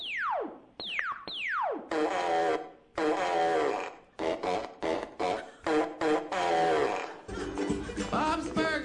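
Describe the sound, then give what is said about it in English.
Three quick descending laser-like zaps open, followed by a series of buzzy, sputtering cartoon fart noises in short bursts, loud, ending in a longer rumbling blast, from the animated show Bob's Burgers. “Robot voice, laser sound, and fart noise.”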